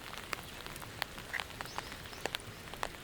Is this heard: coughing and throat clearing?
no